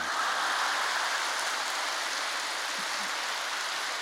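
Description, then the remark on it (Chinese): Dense, sustained applause from a large crowd, a steady hiss of many hands clapping at once that holds at an even, loud level throughout, with no voices. “这个刚刚在新加坡四万人大会，听着四万人的掌声，跟你们好像也差不多嘛。”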